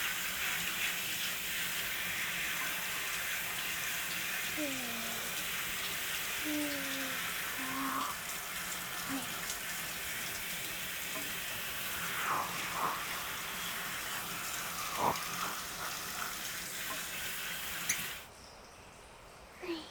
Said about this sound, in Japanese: じゃあ最後にシャワーで全体を流しますね。